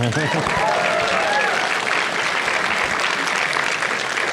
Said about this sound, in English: You can clap.